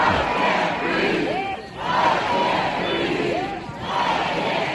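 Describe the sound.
Hundreds of protesters who have taken the Capitol square in Denver chant the slogan "I can't breathe" in unison, the loud roar of many voices swelling and dipping in a steady repeating rhythm roughly every couple of seconds.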